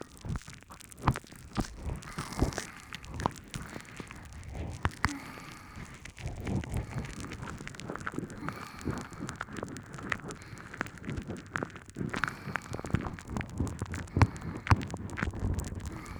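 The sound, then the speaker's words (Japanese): Steady fizzing and crackling of foam being used to clean the ears, dense tiny pops and bubbly hiss running continuously with occasional louder snaps, right at the ear. “どうかしら、これシュワシュワパチパチして気持ちいいでしょ。”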